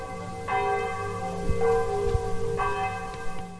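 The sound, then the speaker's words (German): Bells of the village church in Umdorf ring out in overlapping, resonant strikes with long sustained tones over a steady ambient background, serving as the start signal for an evening event. “Die Glocken der Umdorfer Dorfkirche und das ist das Startsignal.”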